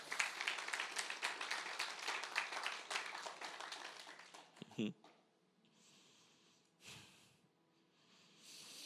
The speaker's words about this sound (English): Can we give a round of applause for those people?